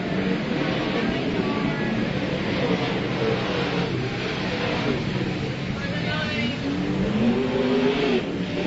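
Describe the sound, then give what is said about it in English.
Race car engines roar steadily and loudly, their pitch rising and falling as they accelerate and swing past, with a dense, continuous drone filling the whole stretch. “So Seth Bergman gets around Nick Engberg. We've got a car stopped in the corner.”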